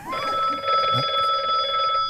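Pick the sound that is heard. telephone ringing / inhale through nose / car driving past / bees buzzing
telephone ringing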